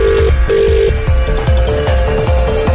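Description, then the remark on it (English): A telephone rings out loudly with a steady, repeating electronic tone over a rhythmic thumping beat as a call is placed, the ring pattern pulsing several times across the short stretch with no voices. “You are in our system and you could be getting one of these phone calls at any time.”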